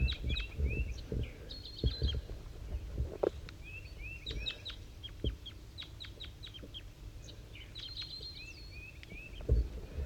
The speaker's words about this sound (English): It's 7:50 a.m. and 5-3 and the wild bird are communicating here. 5-3 is a little bit higher pitched, and the wild bird is a little bit lower, up in the top of the dead pine.